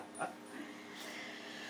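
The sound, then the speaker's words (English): A single short, sharp yip from Elkie, one of the dogs, just after a really good play, followed by a faint, drawn-out whine that lingers quietly in the background. No one speaks. “The dogs have just had a really good play.”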